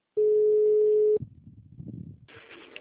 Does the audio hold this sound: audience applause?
no